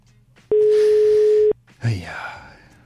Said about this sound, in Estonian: Telefon igal juhul kutsub rahulikult, aga keegi vastu ei võta.